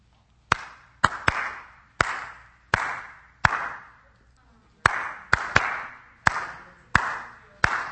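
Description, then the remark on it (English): Sharp hand claps tapping out a song's rhythm for listeners to guess the song: about a dozen crisp, uneven beats with short and long gaps, each clap ringing briefly. No talking. “This time, I'm going to clap it.”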